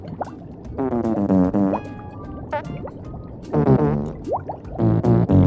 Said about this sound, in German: So geht das den ganzen Tag. Ihre Forelle mit dem Po-Gesicht pupst den ganzen Tag?